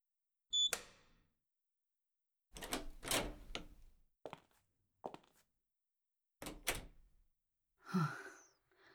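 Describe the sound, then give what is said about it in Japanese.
A locked bedroom door fitted with an electronic lock is cut in two: a sharp metallic slash rings out, followed by a string of loud crashes and clattering thuds as pieces fall, with no talking. “ドアごと真っ二つにします。”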